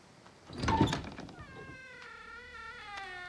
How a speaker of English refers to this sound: She walks to a large wooden door and pushes it open.